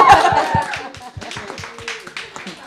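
Close, steady hand clapping in a quick, even rhythm for a few seconds, like a small round of applause from one or two people, with faint voices mixed in at the start.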